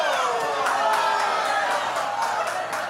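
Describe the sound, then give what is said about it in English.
A live audience cheers and claps in a steady, dense roar, with scattered whoops and bursts of applause rising out of the crowd noise for the full few seconds. “Finally, the crowd wakes up.”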